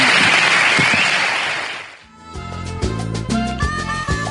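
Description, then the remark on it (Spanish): A loud burst of audience applause for a national championship, a dense wash of clapping that fades out over about two seconds before music with a steady beat and bright tones takes over. “Muy bien, pues enhorabuena, y esperemos que este 2011 revalide el título, y desde aquí te damos mucho ánimo y un fuerte aplauso por ese campeonato nacional.”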